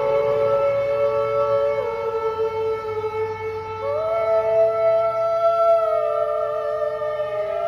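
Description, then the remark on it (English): A steady, droning air raid siren wails continuously in a street in Ukraine during the war while a woman singer's sustained voice harmonizes over it, shifting pitch in long held notes, recorded on her phone. “She began to harmonize with the siren and recorded herself on her phone.”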